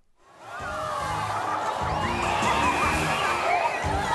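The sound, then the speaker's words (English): A large stadium crowd at a SeaWorld killer whale show roars and cheers continuously, a dense wash of many voices rising quickly from silence and staying loud and excited throughout, as killer whales leap out of the water and splash the crowd. “Huge, beautiful killer whales leap out of the water, swimming around the stadium, splashing the crowd.”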